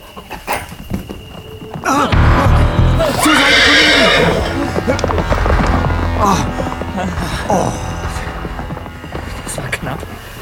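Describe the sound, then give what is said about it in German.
A horse ridden by a burglar lets out a loud, quivering whinny, followed by hoofbeats clattering away, with a dog and other noises mixed in around it. “Mein Haar wäre mir mit dem Pferd zusammengeprallt.”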